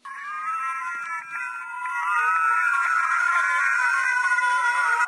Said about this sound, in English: So he had them play a computer game that involved blasting their spouse with a really awful noise. The noise is a mixture of noises that most people hate, like fingernails scratching on chalkboards, dentist drills, sirens. Here's the noise.